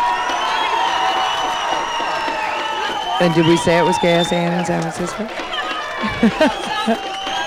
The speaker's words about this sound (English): The crowd's humming away here.